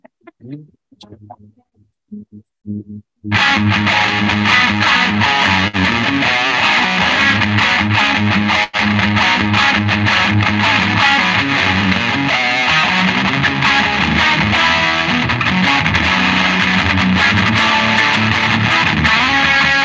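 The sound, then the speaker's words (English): A few sparse, muted plucks, then a loud, heavily distorted electric guitar plays a fast, continuous lick built on pedal tones, a repeated anchoring note, sustained until the end. “All my favorite licks. I mean, they all have those pedal tones, you know, where there's this.”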